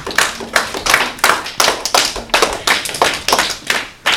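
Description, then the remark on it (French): Steady rhythmic applause, sharp claps landing about three times a second in unison, loud, with no voices; applause for quiz contestants who gave a correct answer. “Une bonne réponse. On peut les applaudir.”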